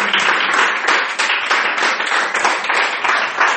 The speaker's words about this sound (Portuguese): Dá uma salva de palmas pra Jesus.